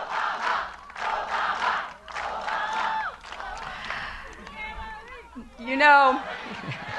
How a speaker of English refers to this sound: And the crowd? Well, if you went by the rhythmic chanting, sometimes it was hard to tell who the rally was for.